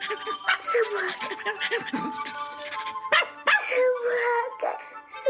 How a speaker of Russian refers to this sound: Собака.